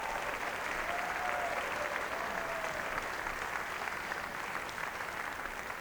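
Sustained audience applause at an event in Augusta, a dense steady wash of many hands clapping at an even loudness for several seconds, with a faint whistle-like tone briefly rising above it.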